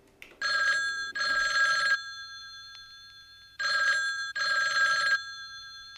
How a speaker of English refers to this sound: The song begins with the sound of a phone ringing, an everyday noise when the song was recorded, but an antique collector's item or a digitized phone application today.